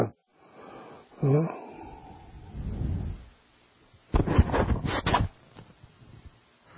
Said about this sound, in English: Long, slow. Then when you exhale all the way out. Make sure that everything goes out.